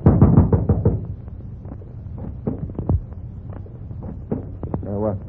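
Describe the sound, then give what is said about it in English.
A quick series of heavy, hollow knocks on a house door by police coming to search it, loud, followed by a few scattered softer thumps and a brief murmur of a voice near the end. “Knock on the door.”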